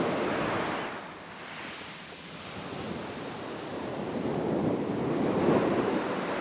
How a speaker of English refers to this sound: My hearing is massaged by the regularity of the waves.